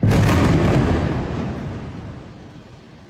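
A massive explosion as the Al-Susi high-rise residential building is struck on September 6th, a deep, roaring boom that fills the low end, then rumbles and slowly decays over a few seconds with no voices present.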